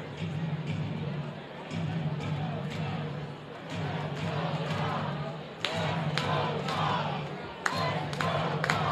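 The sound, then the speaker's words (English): A Thursday night baseball stadium crowd cheers for the first time that night as an 0-2 pitch is delivered to hitter Carson Williams with the bases loaded, a loud, sustained roar of many voices, punctuated by sharp claps and thuds, with a steady low hum underneath throughout. “Good Thursday night crowd on hand, getting into it for the first time tonight.”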